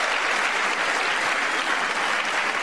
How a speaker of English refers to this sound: A lot of clapping.